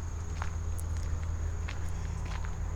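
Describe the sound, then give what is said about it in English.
Footsteps walk across a boardwalk at a steady, unhurried pace, each step a soft knock over a constant low hum and a faint high-pitched whine. “I think I'm going to head out to the boardwalk.”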